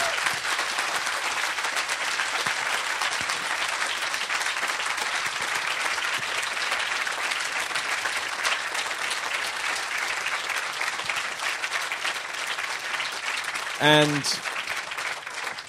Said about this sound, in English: But please give a round of applause to Comrade Eddie Daniels.